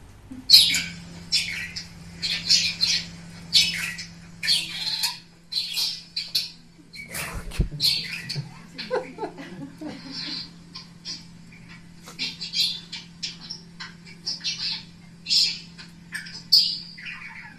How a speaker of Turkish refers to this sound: Durmadan konuşan bir kuş vardı. Kediyi rahat bırakmıyor.